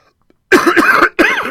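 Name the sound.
coughing and throat clearing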